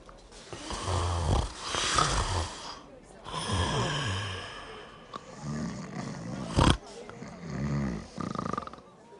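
Loud, close snoring in a steady rhythm, each rasping inhale a few seconds apart, with rumbling, throaty breaths and sighing exhales filling the gaps.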